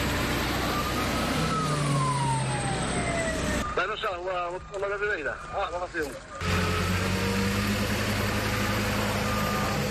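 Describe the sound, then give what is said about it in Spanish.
Motor pumps and small firefighting aircraft that drop water right onto the flames at a forest fire in the parish of Xuño, Porto do Son, fill the scene with a loud, steady engine roar and droning hum, a whining tone sliding in pitch; a person speaks briefly partway through. “El sonido de las motobombas y de estas pequeñas aeronaves, cuyo tamaño les permite descargar agua justo en el punto donde se están produciendo las llamas, apoyando así el trabajo en tierra de brigadas y de los voluntarios de Protección Civil,”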